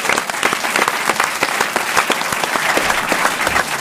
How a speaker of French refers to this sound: Merci Monique. Vous pouvez applaudir Monique Pantel.